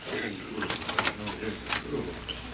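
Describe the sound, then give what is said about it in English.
A printing press clatters in a steady rhythmic run, printing fake paper money, with repeated bright clacks and a dull underlying rumble, moderately loud. “If I print any more fake paper money for Ormond King, I'll never be able to face Prairie City again.”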